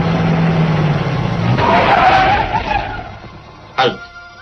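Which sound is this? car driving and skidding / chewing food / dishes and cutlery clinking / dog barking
car driving and skidding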